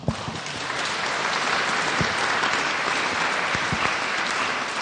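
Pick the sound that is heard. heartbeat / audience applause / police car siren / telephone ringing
audience applause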